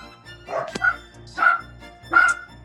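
Two dachshunds, Oscar and Mike, bark in the background three times in a steady rhythm, sharp, high-pitched yaps spaced about a second apart, moderately loud, with no talking over them.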